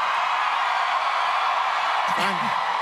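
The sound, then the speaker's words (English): A steady wash of audience cheering and applause for a host on stage fills the whole stretch, with one voice letting out a rising whoop toward the end. “You're just cheering out your time.”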